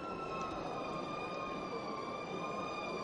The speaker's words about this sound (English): Fire truck off in the distance. Making their way into downtown Kannapolis.